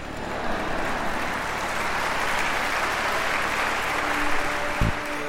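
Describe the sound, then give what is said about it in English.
Steady applause from an audience: a dense, continuous patter of many hands clapping at a fairly loud, even level for several seconds, with no voices over it. “I'll take four claps today.”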